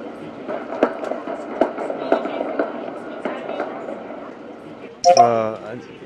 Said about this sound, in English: That's an alarm. That's a real live alarm that we need to respond to.